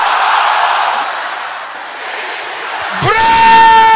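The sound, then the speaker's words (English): A large crowd shouts a prayer loudly and continuously in a dense roar of overlapping voices, then one strong, sustained yell rises clearly above the mass near the end. “Double that shouting.”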